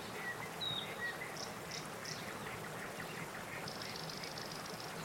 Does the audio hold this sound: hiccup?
no